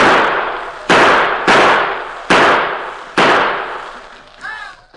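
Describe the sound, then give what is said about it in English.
Loud gunshots ring out five times at an irregular pace roughly a second apart, each blast trailing off in a long echoing decay, followed by a brief high whine. Tonto keeps up steady gunfire through a window near the bed in a bedroom. “In the bedroom, the Lone Ranger lay awake and watching Tonto, who maintained a steady gunfire through a window near the bed.”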